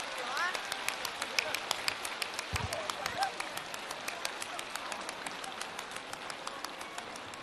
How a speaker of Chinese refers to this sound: 我们再一次用最热烈的掌声，感恩大慈大悲的观世音菩萨，感恩大慈大悲的卢军宏台长。